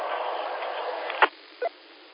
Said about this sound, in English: It changes, but it's raining now. But I'm all right with the rain. I'd much rather have rain than that other stuff, that snow.